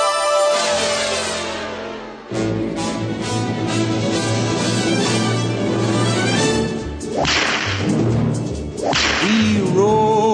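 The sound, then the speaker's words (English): Sharp whip cracks snap over a full orchestral intro, the bright lashes cutting through loud brass and strings with swishing rushes between them. No one speaks. “But get your whips out and take it away”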